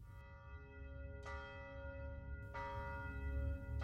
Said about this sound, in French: Comme la veille, le son des pas de l'étranger fit écho à celui des cloches. Minuit venait de sonner.